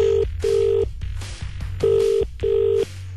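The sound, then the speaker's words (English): Telephone call tones while calling a contest winner: a series of steady electronic beeps in short bursts, like dialing or a ringback pattern, repeating evenly and fairly loud with no talking. “Let's see if we can get them on the phone now.”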